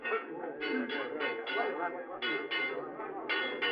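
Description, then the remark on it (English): An alarm bell, rung to raise the alarm of murder and treason, clangs rapidly and insistently, each stroke following close on the last in a steady, urgent rhythm, loud with a ringing, metallic tone throughout. “Ring the alarm bell, murder and treason!”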